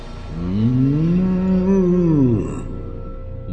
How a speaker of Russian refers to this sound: Возмутился хмурый бык. Перешел он вдруг на крик.